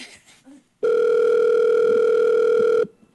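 A steady, loud telephone line tone as a call to a back phone is put through, holding for about two seconds, a continuous electronic hum with stacked harmonics, preceded by brief rustling noise and cutting off abruptly.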